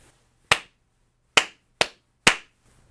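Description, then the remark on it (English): Four sharp, loud hand claps, made to sync up two recordings, unevenly spaced over a few seconds, each with a quick decay and near silence between them. No one speaks. “I'm going to have two recordings, and I'm going to sync them up by doing a clap here.”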